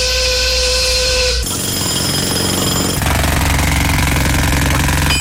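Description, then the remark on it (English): A sound effect for the industrial zone of the Quiztal Maze: loud industrial machinery, a whining, humming motor gives way to rattling mechanical clatter, then a jackhammer pounds in a rapid, steady rhythm. No voices are heard. “So, first of all, Gene, it is, of course, the industrial zone.”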